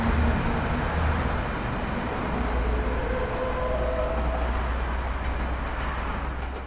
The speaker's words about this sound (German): Und jetzt sage ich mal, was ich denke, was es ist. Ich glaube, da hat ein LKW gebremst.